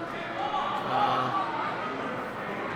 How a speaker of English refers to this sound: One of Miami's players has gone down. He's back up. You can hear the claps from the audience, but he took a thorough rocking there.